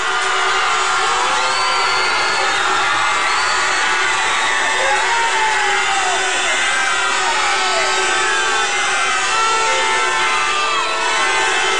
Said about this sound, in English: What about our management team? A huge round of applause for our joint managers